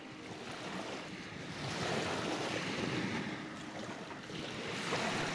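Steady surf on the Black Sea coast, on the eastern edge of Europe, with waves washing and swelling in a continuous roar, mixed with gusty wind buffeting the microphone. Fairly loud throughout, with no voices.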